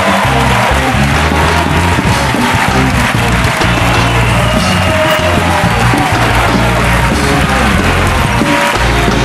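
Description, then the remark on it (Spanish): An audience claps loudly and steadily for Jorge Ponce for about nine seconds, a dense, continuous wash of applause mixed with some cheering, with no clear break or fade. “Un aplauso para Jorge Ponce.”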